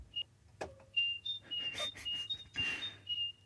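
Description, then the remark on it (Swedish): A person whistles an imitation of a great tit: a string of high, thin two-note phrases alternating between two pitches, with a couple of breathy bursts and a low steady hum underneath. “För att en talgoxet som jag tror att det ska härmas.”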